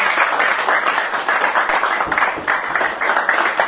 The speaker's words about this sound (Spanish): Vamos a pedir un fuerte aplauso para ellos.